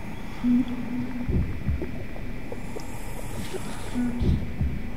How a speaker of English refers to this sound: An attempt to recreate the sound of the womb experience. Bubbling noises.